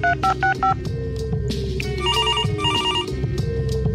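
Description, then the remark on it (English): A quick run of four telephone dialing beeps as a guest is called, followed after a pause by a trilling phone ring that repeats twice and goes unanswered, all clear over a steady musical hum underneath. “Daisy didn't want to come into the studio, but did offer to take the take a phone call.”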